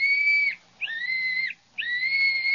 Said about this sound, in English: Sure, and he gave me this little whistle and said if we ever needed help, just to blow on it 3 times, and he'd come a-running.